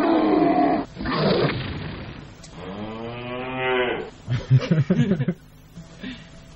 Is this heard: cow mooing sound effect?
yes